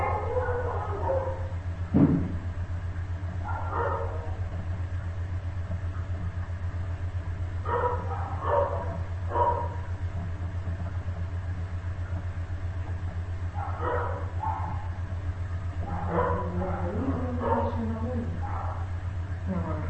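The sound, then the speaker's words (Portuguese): The speaker's dogs, including one named Lonita, bark in short, scattered bursts, sometimes several yaps in quick succession, over a steady low rumble like an idling engine that runs throughout. A cat on the street is driving the dogs wild. “Eu vou anunciando o próximo tema, se os meus cachorros deixarem eu falar.”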